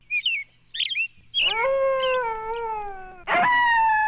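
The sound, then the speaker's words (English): A few quick bird chirps give way to a long, steady wolf howl that holds and slowly dips, then a second loud howl rises up right at the end. “Alaska wolves are more closely related to Siberian wolves than they are to wolves in Minnesota.”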